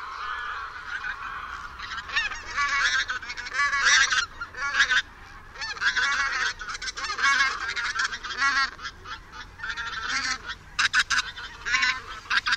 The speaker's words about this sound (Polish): Posłuchajmy gęsi zbożowej.